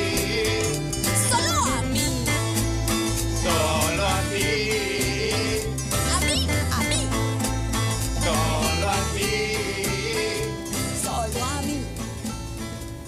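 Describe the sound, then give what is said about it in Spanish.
A bright, upbeat children's song from a Chilean children's television programme plays loudly and continuously, with a steady bass and drum beat under a sung melody, full band accompaniment throughout and no talking over it. “para todas las nenitas y los nenes, …, de 31 minutos, del fabuloso programa chileno de televisión”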